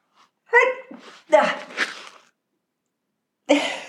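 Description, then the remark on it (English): A loud sneeze with voiced, gasping build-up sounds leading into a sharp burst, then a brief silence before another short voiced sound at the end. “and I'm going to sneeze right now.”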